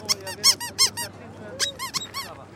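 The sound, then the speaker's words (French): A small rubber cat-shaped dog toy, made for dogs to bite, squeaks repeatedly in quick, uneven bursts, its high, wheezy pitches rising and falling, with about ten squeezes in a row and a faint low hum underneath. “Est-ce qu'il fait du bruit, ce petit chat-là, est-ce qu'il fait du bruit ?”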